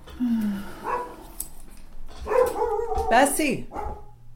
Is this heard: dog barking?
yes